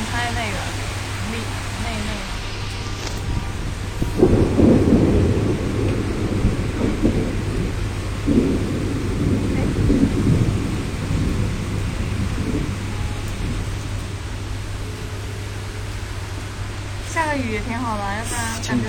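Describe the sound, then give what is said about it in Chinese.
Steady, hissing rain falls nearby throughout, broken by two deep rolls of thunder in the middle. People speak briefly at the start and again near the end. “对，附近真的下雨，出门还是带把伞吧。”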